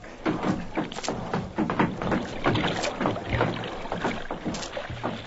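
A dinghy is pushed off and rowed across water to reach a man in the water, with repeated oar strokes splashing and knocking in a steady rhythm, fairly loud.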